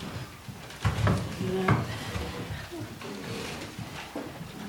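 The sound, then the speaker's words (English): Chairs scrape and thump as they are dragged around a room, a cluster of loud scuffs and squeaks near the start, then quieter shuffling with faint murmuring voices in the background. “These chairs are not easy to work with here.”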